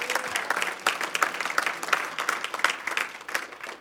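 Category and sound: crowd, audience clapping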